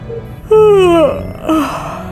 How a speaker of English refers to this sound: Another jaw-cracking yawn, and she decided that awake might not be the right term.